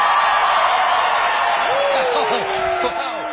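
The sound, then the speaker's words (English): A loud, dense crowd roar of Stephen Colbert's show audience cheering at the news that Donald Trump fired FBI Director James Comey holds steady throughout, with a rising and falling whistle-like whoop cutting through partway in, and many voices blending together. “You can obviously hear the audience cheering in delight.”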